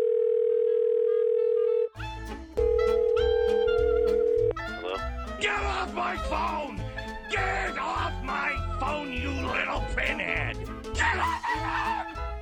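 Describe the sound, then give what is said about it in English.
A steady telephone dial tone hums alone for about two seconds, returns briefly over a punchy drumbeat, then gives way to a lively, busy musical jingle. “And first up, I have some phone messages, and you know what that means.”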